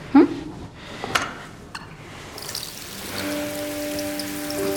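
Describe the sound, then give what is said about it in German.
Water is poured to mimic rainfall, a steady patter and splash with a few sharper drip-like hits. Faint sustained tones enter partway through. “Und jetzt mach noch mal Regen.”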